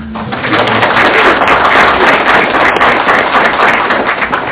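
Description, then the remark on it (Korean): An audience applauds with dense, steady clapping that stays loud for several seconds and tapers slightly at the end. No one speaks over it. “박수 좀 크게 쳐주시죠.”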